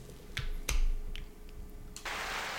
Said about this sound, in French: J'applaudis, mais pas trop.